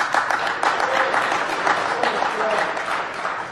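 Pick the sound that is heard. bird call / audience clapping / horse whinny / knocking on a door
audience clapping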